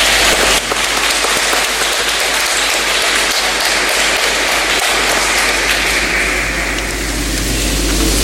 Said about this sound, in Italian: Gli facciamo un applauso di benvenuto.